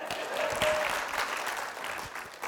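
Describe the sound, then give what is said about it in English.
An audience applauding a couple's upcoming 20th wedding anniversary, a dense, steady patter of many hands clapping at once that holds for a couple of seconds before starting to thin out. “But you can clap for that.”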